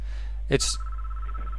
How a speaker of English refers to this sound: Is that your phone? Or? Not my phone. Nope.